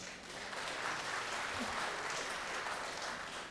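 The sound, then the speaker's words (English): An audience claps steadily for a few seconds if they think a quote was from Sam Alito, a dense, even wash of applause at moderate loudness with no voices standing out. “Audience, clap if you think this was Sam Alito.”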